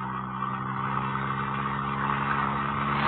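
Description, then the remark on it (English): A small car's engine drones steadily as it cruises along an open road through flat, open country, a constant hum with road noise and no change in speed or any voices. “I love our little car, but this flat, open country is fabulous.”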